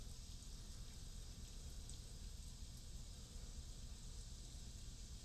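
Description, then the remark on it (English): A rain sound recording plays: steady, quiet rain hiss with a soft low rumble underneath, continuous and even throughout, with faint scattered droplet ticks and no voices. “You like the rain one? Okay. Okay, we'll put that on.”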